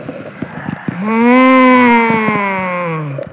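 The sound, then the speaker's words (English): A forceful lion's breath exhale in a yoga practice: one long, loud, voiced 'haaa' with a low, steady, slightly falling tone that lasts about two seconds, preceded by quiet rustling. “And how about we take one big lion? Inhale.”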